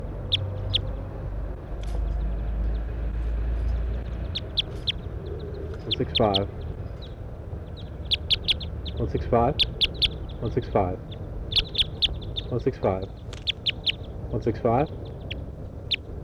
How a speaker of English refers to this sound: It's a wild bird here now. A couple of wild birds up in the pine tree. One gave a toop.